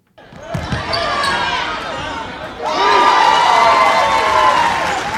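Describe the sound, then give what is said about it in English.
Fans in the Juneau Douglas High School gym cheer and shout loudly and continuously as Huna scores against Yakutat in a gold medal tournament basketball game, swelling even louder about halfway through, with excited voices layered over the roar and a hint of ball bounces early on. “Fans cheer as Huna scores against Yakutat in a hard-fought gold medal tournament game.”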